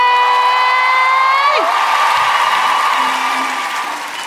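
A held, bright musical chord breaks off after a moment, giving way to loud, dense audience applause with a few cheers that continues steadily and eases off slightly toward the end.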